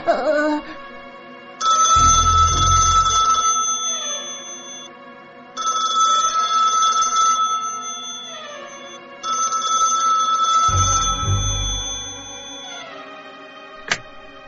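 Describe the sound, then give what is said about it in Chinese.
A phone ringtone plays late at night, a bright, melodic tone in three repeated loud bursts with short pauses between them, with a brief low rumble under the first and last rings. “该不会真的是鬼来电吧？”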